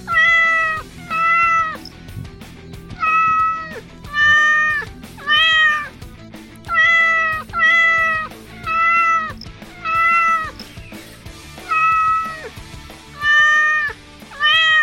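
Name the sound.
cat meowing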